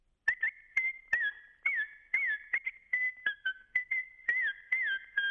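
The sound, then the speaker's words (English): A rapid run of sharp, shrill sheepdog herding whistles, loud, mixing short chirps with longer sliding notes in an irregular sequence, with no talking, signalling a dog driving sheep across a field: go right, go left, stop, pause. “A not atypical set of whistles when the dog is driving the sheep across the field can sound like”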